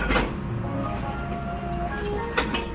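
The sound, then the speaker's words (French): Crockery clinks and clatters as a dish vendor carelessly packs away his goods at the market in Oswestry, England, with two sharp ceramic knocks standing out over a steady low rumble of background noise. “Le vendeur de vaisselle remballe sa marchandise sans grande précaution.”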